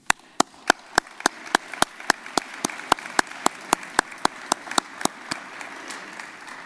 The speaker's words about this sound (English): I'm pretty sure that you will join me now in expressing my gratitude to all of them with a big round of applause.